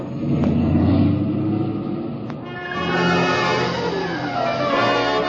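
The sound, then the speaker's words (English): A car engine roars, revving and surging as it accelerates, with a steady low rumble throughout and a couple of brief sharp clicks early on, as the driver speeds to get ahead of a runaway truck loaded with nitro. “Hey, mister, get out of your car quick, please.”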